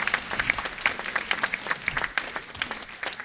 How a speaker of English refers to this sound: Give yourselves a clap offering. Hallelujah.